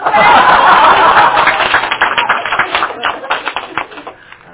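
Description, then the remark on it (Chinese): Applause from a group, a dense wash of clapping for about two seconds that thins into scattered, individual claps before fading out. “嗯，掌声不够，继续。”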